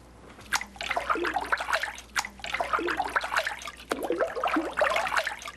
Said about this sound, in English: I've just put the pulp from the beater into this vat of water where we're going to be making our first sheet.